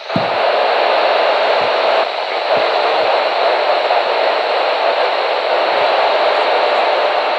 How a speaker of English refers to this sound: So where are we? Come on, satellite. Until we get something. This is a static for you all to hear.